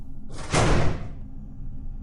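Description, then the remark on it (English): A door to a room with metal shelves and dozens of flickering monitors slams shut: a brief rushing swing ending in a loud, heavy bang that fades quickly, leaving a low, steady hum coming from the room underneath. No one speaks. “I slammed the door shut behind me.”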